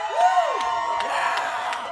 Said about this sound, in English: We can't really rock out unless you give us like really loud noise. We need like really loud noise when you clap, so the louder you are, the louder we'll get. Let's put it that way.